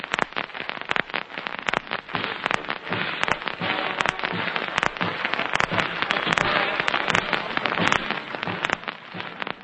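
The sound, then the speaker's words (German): SS troops of the Leibstandarte Adolf Hitler marching in goose step in Prague, Czechoslovakia, at the arrival of Reichsprotektor Freiherr von Neurath, drowning out Sepp Dietrich's report: a dense, loud clatter of many boots striking pavement, sharp crisp impacts overlapping into a steady crackling roar. “Die Meldung Sepp Dietrichs geht im Stechmarsch der SS-Männer unter.”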